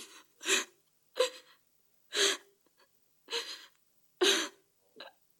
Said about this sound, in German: Nicht weinen.